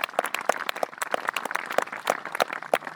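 An audience applauds in praise of God, many hands clapping in a dense, steady patter of sharp, overlapping claps at a moderate level, with no voices speaking over it.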